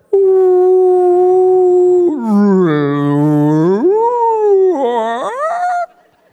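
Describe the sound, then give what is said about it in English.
A whale call: one long, loud tonal moan that holds steady, dips into a lower groaning swoop, then rises and wavers before cutting off, heard alone with no talking. “And these whales, they can communicate over hundreds of miles underwater.”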